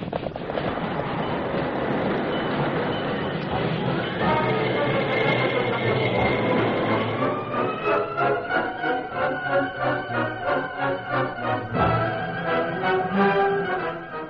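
A steam train rolls along the rails, loud and continuous, its wheels settling into a steady rhythmic clatter and chugging pulse over the second half.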